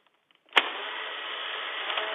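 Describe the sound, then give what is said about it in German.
A sharp mechanical click is followed at once by a steady, buzzing motor whir as an instant camera, demonstrated at the Sofortbildshop in Berlin, ejects its photo, the whine holding even and unbroken to the end with no voices. “Er will demonstrieren, wie so ein Motor klingt.”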